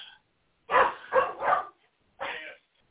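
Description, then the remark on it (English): A dog barks four times, three quick, loud barks in a row, then a short pause before a final bark, with no one talking. “That was not my dog because I was muted so that you couldn't hear my dog crunching on every water bottle she can find.”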